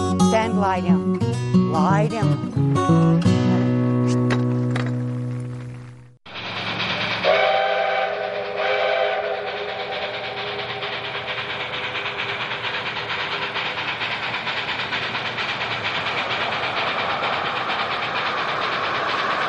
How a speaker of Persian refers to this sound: این لوکوموتیو 473 از راهن دورانگو سیلورتون است. به خاطر رنگش به آن میگویند زنبور عسل و برای اولین بار در 1949 از آن استفاده شد.